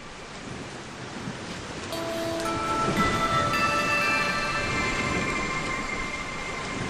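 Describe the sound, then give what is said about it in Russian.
A continuous rush of sea surf and breaking blue-green, foam-laced waves fills the background. After a couple of seconds, steady sustained tones rise in and hold over the roar. No one speaks. “Безбрежное море, сине-зеленые волны в кружевах пены, стремительные чайки и соленый ветер.”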